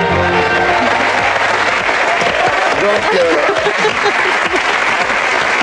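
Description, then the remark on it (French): A crowd applauds loudly and steadily throughout, dense clapping with a few scattered chuckles and voices mixed into the noise; the audience is applauding the advertisements (commercials) that just played. “On est bien d'accord, on est en train d'applaudir les pubs, là.”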